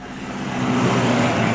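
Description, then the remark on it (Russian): A military vehicle rumbles along a central road about 60 kilometres from the border, its broad engine roar swelling louder as it approaches, drives past and turns, with a steady low drone throughout and no talking. “Вот военная машина едет.”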